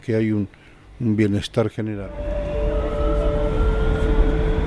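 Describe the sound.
A voice speaks briefly, then a subway train's steady low rumble takes over, with a sustained electric motor whine running through the loud, continuous rolling noise of the ride.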